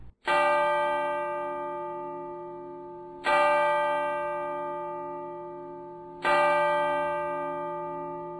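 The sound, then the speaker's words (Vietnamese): A clock chimes three times, each a bright, ringing bell-like strike spaced about three seconds apart, with long resonant decays and no talking. “Đồng hồ gõ 3 tiếng mà cô cũng chưa ngủ.”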